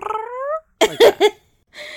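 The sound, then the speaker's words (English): A cat named Ulysses vocalizes alone outside a door: one drawn-out, rising meow, then three quick, clipped yowls in a row and a brief final cry, moderately loud with short silent gaps between them. “And the minute you said that, one of them just made a noise outside the door.”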